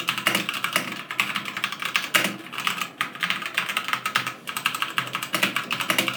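Steady typing on a mechanical keyboard with white switches, a dense run of quick, bright clicks and clacks at an even pace, with occasional heavier thumps, and no voices.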